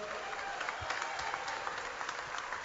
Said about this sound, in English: KMOX, a big part of tonight, and we thank our KMOX staff. How about a round of applause for KMOX Radio?